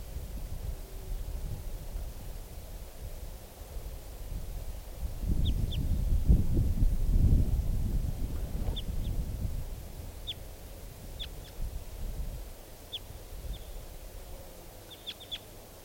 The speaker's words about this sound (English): It's recording at 11:33 now, and I've walked over to where the wild bird, the type 2 bird, is sitting on the top of a tree. That's it. Wild bird.